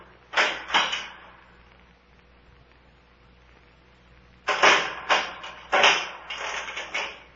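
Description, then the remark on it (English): A couple of sharp clattering bursts, a pause, then a rapid run of metallic rattles and knocks as a chained door is unchained and opened, something is put inside, and the door is shut again. “Someone put something inside the door and closed it again.”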